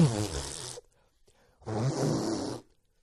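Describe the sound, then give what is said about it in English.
Two loud, forceful nose blows without a tissue, each a rough, breathy blast with a wet rattle, the second one longer, separated by a brief silent pause. “You know the day you become a man, a more of a man, more of a disgusting, less refined man, is the first time you blow your nose without Kleenex.”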